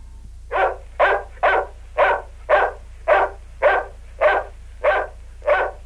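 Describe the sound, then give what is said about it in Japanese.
A dog named Robo barks frantically and nonstop, about eleven loud, evenly spaced barks in quick succession, with a low steady hum underneath and no one speaking. “どうしたんだろうロボのやつ、気が狂ったみたいに吠えてら。”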